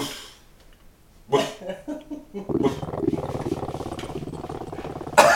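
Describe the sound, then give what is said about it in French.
A dog vocalizes as its owner gets angry at it: a few short grunting bursts, then a sustained, rumbling growl-like moan that carries on to the end, fairly loud and alone. “Je vais tout de suite faire l'interview du chien. Qu'est-ce que tu as à dire, le chien?”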